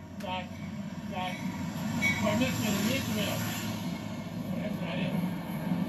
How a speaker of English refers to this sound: Express train.